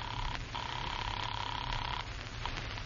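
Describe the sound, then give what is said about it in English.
A telephone being dialed downtown to make a call: a clear electronic tone sounds, breaks off briefly, then holds steadily for over a second before cutting out, with a low hum underneath and no voices. “You leave Black's car in a side street, take a taxi downtown, and make a phone call.”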